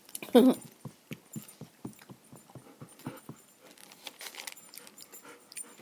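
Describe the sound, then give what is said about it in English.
A big dog sniffs and pants with its nose poked into something, in quick, rhythmic bursts, about three per second, loud at first and then more ragged and breathy, with no talking. “Hey, get your nose out of there, you big dog.”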